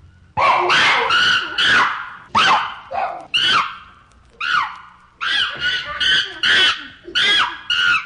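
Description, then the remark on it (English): A chimpanzee's warning or distress cries at the Detroit Zoo: a rapid series of loud, harsh, bark-like screams in uneven bursts, with no talking. “The chimpanzee has a very characteristic chatter, but I wonder how many of you have heard the warning or distress cry of the chimpanzee. Something like the bark of a dog.”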